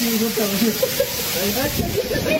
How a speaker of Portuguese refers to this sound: Em Lago da Pedra, moradores foram surpreendidos na noite dessa quarta-feira por uma chuva de granizo. E agora granizo. É gelo aí pra tudo quanto é lado, ó.